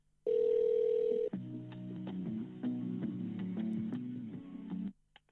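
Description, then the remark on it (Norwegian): A steady electronic telephone tone sounds for about a second as a call to Oslo City Legesenter, a medical centre in Oslo, is transferred to an available customer service agent, then gives way to a thin, looping hold melody of synthetic notes heard over a phone line, ending abruptly with a faint click. “Du settes nå over til en ledig kundebehandler. Et øyeblikk. Please hold.”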